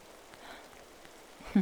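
Soft, steady rain falling late at night, a faint even hiss with scattered light patters, ending with a brief louder low thump.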